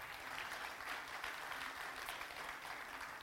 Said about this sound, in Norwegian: Ja, det lov å klappe.